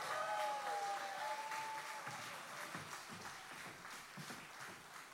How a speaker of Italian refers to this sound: Vi presento i musicisti. …, per favore, fateli un applauso.